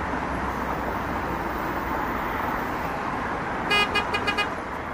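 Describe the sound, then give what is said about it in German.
A steady, dense roar of city road traffic fills the scene, then near the end a car horn honks several times in quick, short bursts, standing out clearly over the rumble. “Autos, Züge, Flugzeuge, Menschen, die sich unterhalten oder womöglich rumbrüllen oder so.”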